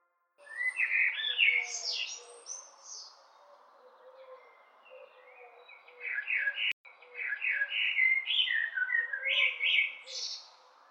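Bright, warbling blackbird song phrases ring out in two bursts, layered over a steady background of many other birds chirping and calling, like a full dawn chorus all around.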